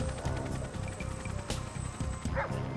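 Dogs of a canine search squad bark in a rapid, steady stream of overlapping woofs and yips, loud, with no pause across the few seconds and a faint high whine running underneath.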